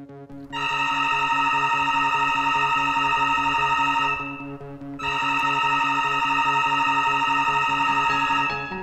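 An electric bell at a monastery gate rings in two long bursts, a steady bright buzzing tone with rich overtones, separated by a short pause of about a second. No one speaks.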